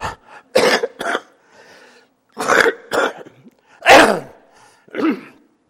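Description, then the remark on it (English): A preacher coughs and clears his throat during a sermon, his voice troubling him: a rough, uneven series of bursts, about five or six harsh hacks with short pauses between, fairly loud with no talking. “almost stayed home because my voice was messing up and I started coughing.”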